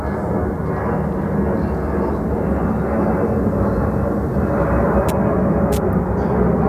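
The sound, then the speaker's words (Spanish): A low-flying airplane roars loudly overhead as it passes over a home, a dense, rumbling engine noise that holds steady for the full several seconds, with no voices over it. “Pues están pasando, sí, por aquí aviones. Esto... Bueno, es que el ruido es tremendo.”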